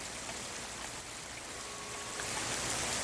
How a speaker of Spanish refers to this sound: La noche siguiente es una noche de tormenta. La lluvia golpea con fuerza los cristales de las ventanas y las ramas del abeto del jardín chocan entre tanto a cada golpe de viento.